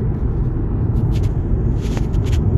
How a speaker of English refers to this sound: So car nearly run me over again.